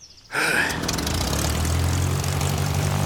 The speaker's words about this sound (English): A mechanic starts the propeller.